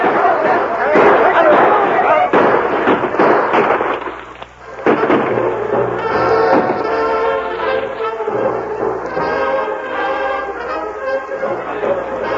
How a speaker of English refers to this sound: Stay under that desk until the shooting stops.